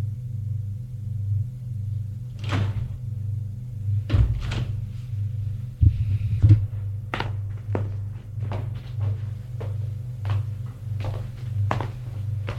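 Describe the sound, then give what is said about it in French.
Elevator doors clatter and thunk shut over a steady low motor hum, followed by a run of sharp mechanical clicks as the lift rises to the first floor of a 19th-century building at Place de l'Étoile, moderately loud, with no voices. “prend l'ascenseur et monte jusqu'au premier.”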